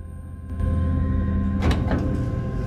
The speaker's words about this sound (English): The door suddenly opens and a guy enters and presses his floor.